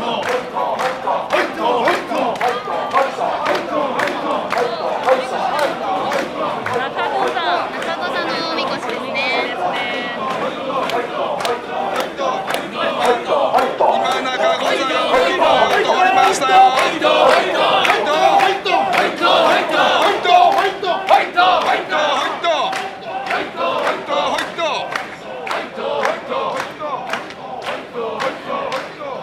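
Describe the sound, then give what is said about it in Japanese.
A large festival crowd chants rhythmically while carrying a mikoshi shrine, with children holding ropes at the front, loud repeated shouts in a steady beat and dense crowd noise throughout, swelling in the middle. “本当にたくさんの方が今抜かれてます。あ、おみこしが見えてきました。”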